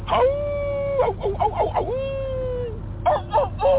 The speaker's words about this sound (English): That's a rooster. Give me a wolf.